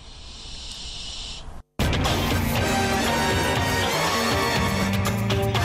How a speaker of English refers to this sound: Well, as I said, we're not telling you where those barn owls are, but we do have pictures on them, pictures of the barn owls on our website.